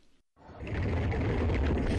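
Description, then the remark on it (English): A short mechanical clatter, a brief silence, then the machinery of a submarine diving to the bottom of Lake Baikal, Russia, carrying Prime Minister Vladimir Putin, starts up and runs steadily: a loud, deep rumbling drone with grinding, whirring mechanical noise layered on top and no voices. “You're listening to 20,000 Leagues Under the Sea, Russian style.”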